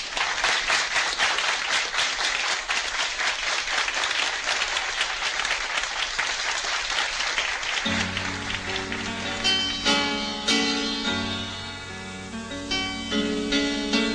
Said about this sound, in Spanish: Un hombre que llega a este sitio tan querido y tan popular, nada más que nombrarlo, lo vamos a recibir no solamente con aplausos, sino con mucha alegría.